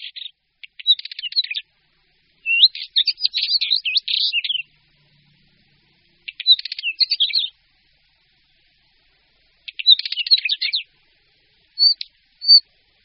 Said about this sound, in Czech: U nás je bělořit řídce hnízdícím druhem, vyskytujícím se od nížin až vysoko do hor nad hranici lesa.